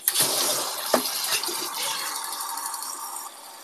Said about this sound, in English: Let me just get some hot water going because I'm thirsty.